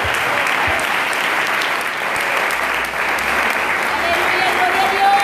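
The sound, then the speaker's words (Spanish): Sustained applause from a large audience clapping for God, a dense, steady wash of clapping lasting several seconds with no voices standing out. “Aplauda, es para Dios.”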